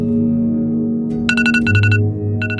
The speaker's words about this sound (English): The journey began with an alarm beeping on a handset made by Apple, which has a 62% market share in America.